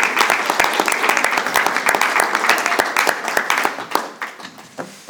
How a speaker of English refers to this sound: Oh, nice round of applause. Oh, yeah. Come on. Come on.